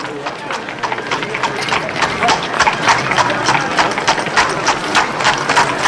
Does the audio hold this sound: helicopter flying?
no